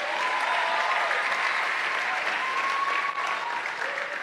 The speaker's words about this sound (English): Clap away. I thought you were clapping.